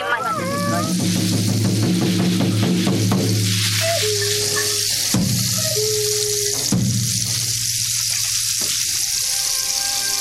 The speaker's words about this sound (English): And now on OBE Radio, … with a journey into the rainforest with ….